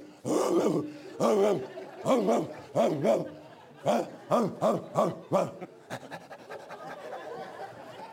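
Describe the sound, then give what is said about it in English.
A person imitates a barking dog: about a dozen loud woofs in quick rhythmic bursts, fading into softer, messier yelping noises at the end. “people would get down on all fours and run around the church barking like a dog.”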